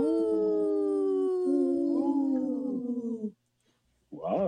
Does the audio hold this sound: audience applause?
no